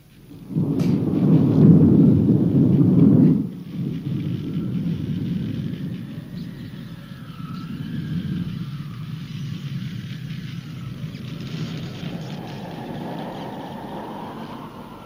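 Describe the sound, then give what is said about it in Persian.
Wind blows steadily in a broad, rushing roar, opening with a heavy low rumbling gust for a few seconds before settling into a softer, continuous stormy whoosh. No one speaks. “باد. خب لااقل این یکی منو یاد خونمون میندازه.”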